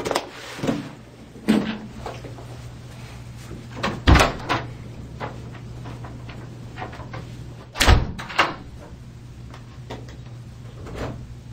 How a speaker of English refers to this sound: She storms out, slams the door